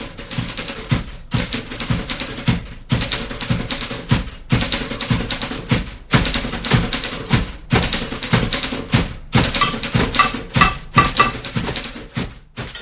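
A band, five men playing typewriters, clatter together in a steady, driving rhythm, keys clacking in dense bursts broken by brief regular pauses, loud and percussive with no voices.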